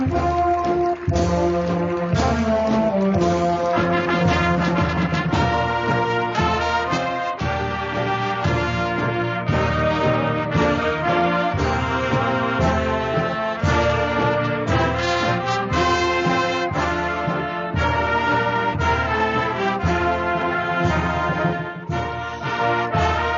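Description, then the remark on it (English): A high school band plays a loud, continuous piece at a graduation ceremony, with full brassy chords and steady rhythmic accents, and no one talking over the music. “Now listen to the band.”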